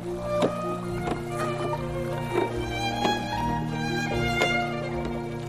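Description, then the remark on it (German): Oar strokes of a black gondola being rowed through the canals of Venice sound as sharp wooden knocks and creaks every second or so, over a steady low drone and soft lapping canal water, with no voices. “Vernehmt ihr das Geräusch meines Ruders, das die schwarze Gondel sanft nach vorn treibt?”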